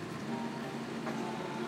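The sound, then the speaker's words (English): A metro train rumbles somewhere beneath the floor, a steady, muffled low drone with a faint humming tone that holds evenly throughout, with no voices. “Oh, the floor is rumbling. This is a metro or something underneath us.”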